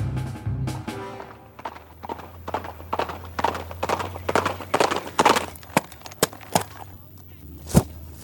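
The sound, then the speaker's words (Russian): Hooves of a tamed mustang carrying its rider clop in an uneven, trotting rhythm, appearing in the distance and growing louder and nearer over several seconds before a few sharper, spaced final hoofbeats ring out, with a low rumble underneath. “Ожидание затянулось, и гости уже стали тревожиться о судьбе бесстрашного мустангера, когда он наконец-то появился вдали, верхом на укрощенном мустанге.”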